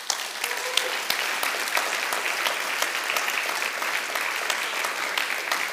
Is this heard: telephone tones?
no